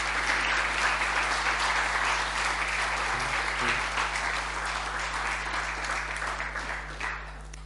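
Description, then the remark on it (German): Sustained applause from an audience welcoming two guests onto the stage, a dense steady clatter of many hands clapping that carries on for several seconds before gradually tapering slightly toward the end. “Und ich bitte euch, die beiden mit einem großen Applaus jetzt zu begrüßen,”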